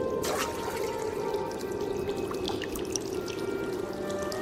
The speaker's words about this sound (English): Not far away, a spring was coming right out of the ground.